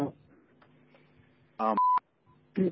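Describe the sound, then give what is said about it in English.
A short electronic phone beep sounds between bursts of talk, a clear steady tone lasting a fraction of a second, as someone joins a conference call on a new phone system being tested. “Great, I heard thank a beep. You. Did someone else just join us?”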